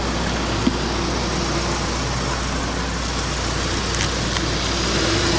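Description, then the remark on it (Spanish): A car engine rumbles steadily as the vehicle pulls out of a garage, a constant low hum under broad noise with a faint click or two, and no one speaking. “Después, da la vuelta a la esquina para ver cómo sale del garaje hasta perderla de vista.”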